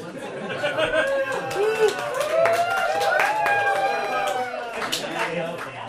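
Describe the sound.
A crowd cheers at the mention of Santa Barbara, whooping with many overlapping voices, while scattered hand claps pop through steadily for several seconds at a fairly loud, even level.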